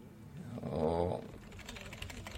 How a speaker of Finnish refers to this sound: Ja nyt se on mykkänä niin kauan aikaa, että mä naputtelen kirjoittaa siihen tuon tiedoston ja sitten Ctrl-C:llä lopetan sen, niin nyt mulla on sinne syntynyt tuo tehtävä 2.pas-niminen tiedosto